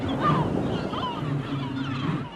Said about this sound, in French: Restez avec nous, nous revenons juste après cette virgule musicale.